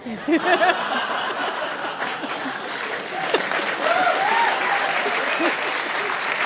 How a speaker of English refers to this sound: We have something different. Whenever it's time for applause, you will hear this. Put your hands up. Please clap.